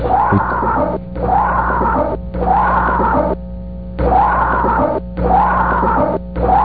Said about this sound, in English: And that one right there is a scream heard in the background of some of the investigators talking. That one actually creeps me out more than any of them.